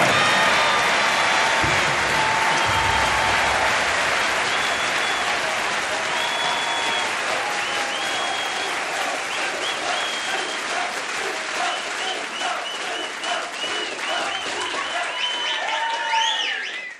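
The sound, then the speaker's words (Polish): A large crowd at the finish line of a marathon in Gdańsk applauds steadily as the winner crosses, with dense, sustained clapping mixed with scattered cheers and whoops, holding loud for the whole stretch with some whistles rising near the end. “Zwycięzcą zostaje Kinga! Kinga Pulkowska! Rewelacyjny czas! 3 godziny, 5 minut i 13 sekund! Brawa!”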